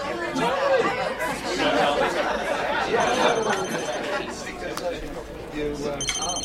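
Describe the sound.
A phone rings in short bursts of bright electronic tone, cutting through a steady wash of crowded restaurant chatter and overlapping voices.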